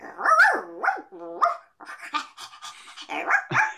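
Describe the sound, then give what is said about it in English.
A person imitates a dog, barking as the dog character Weenie from the Nick Jr. series Oswald, voicing a run of whiny, yelping barks and panting huffs with sliding pitch, loud and alone without any speech. “I barked like a dog in different environments.”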